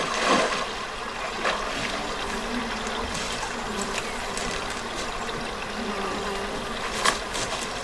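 A dense foley soundscape, assembled in a studio, of running water and buzzing insects, with crisp barefoot footsteps crunching through dry grass and a few sharper rustles standing out, steady with no talking; the scene is a few people at a lake.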